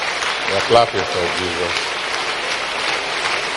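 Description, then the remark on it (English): Many people at a religious service clap steadily together for Jesus, a dense, even patter that fills the whole clip, while a voice speaks briefly over the applause near the start. “Keep clapping.”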